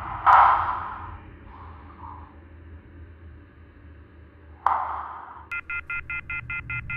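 telephone tones

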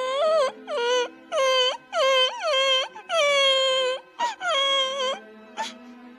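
young boy crying

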